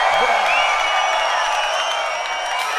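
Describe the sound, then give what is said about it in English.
A large crowd at a DJ set at Matter in London roars and cheers continuously, a dense, loud wash of voices with a few shrill whistles rising above the din for the whole stretch. “somebody make some real fucking noise right about now.”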